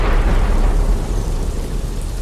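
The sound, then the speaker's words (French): A loud thunderclap follows a lightning flash during a rain shower, rumbling heavily through the low end, with broad noisy crackle above it and sustained roaring that eases only slightly over about two seconds. “Les deux amis se remettent donc en route quand soudain, un éclair déchire le ciel, suivi de près par un vilain coup de tonnerre.”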